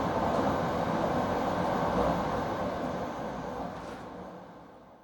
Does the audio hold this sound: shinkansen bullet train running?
yes